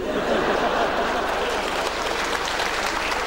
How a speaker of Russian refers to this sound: Ну а что, ему приятно, вы ему аплодируете. Он здесь находится на первом ряду, попробуйте вычислить, не вычислите.